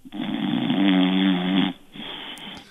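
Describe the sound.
A voice imitates a loud, drawn-out snore, a rattling low inhale lasting over a second, followed by a softer breathy exhale.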